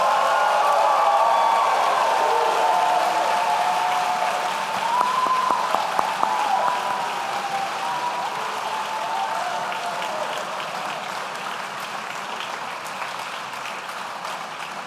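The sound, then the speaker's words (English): Sustained audience applause for Masters in Public Administration graduates, a dense steady wash of clapping that stays fairly loud throughout, with a few sharper claps and faint cheering mixed in, easing slightly toward the end. “Please join me in a round of applause for our Masters in Public Administration graduates.”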